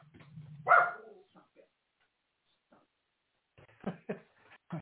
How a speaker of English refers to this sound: My dog is half blind and she sees anything outside the window and she'll bark at it.